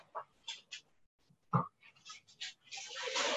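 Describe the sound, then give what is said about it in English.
Several short, sharp dog barks pop up at irregular intervals during a council meeting, one louder and fuller than the rest, followed by a rush of hissy background noise at the end. “If there are no questions, the dogs want to make a question.”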